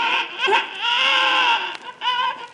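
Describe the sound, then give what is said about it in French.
A baby wails loudly, a sustained, quavering cry that breaks briefly for breath and then starts again, with no talking over it. “Mon bébé, dis-moi, pourquoi pleurer comme ça?”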